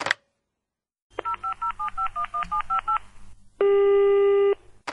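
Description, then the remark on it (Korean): A quick run of about ten short, clear keypad beeps as a phone number is punched in to call a dry cleaner's, followed by a longer steady electronic tone, loud with no one talking. “자, 그럼 이제 세탁소에 전화해야지.”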